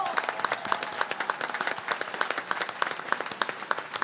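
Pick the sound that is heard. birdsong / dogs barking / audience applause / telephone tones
audience applause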